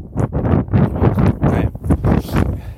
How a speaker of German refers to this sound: Jetzt haben wir ein bisschen viel Wind, natürlich. Ich laufe über die offene Fläche.